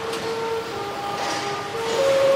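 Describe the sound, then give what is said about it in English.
A Chinese CRH high-speed train running, with a steady rumble and electric motor whine whose tones shift and rise near the end. Continuous, with no voices. “Welcome aboard high-speed CRH train.”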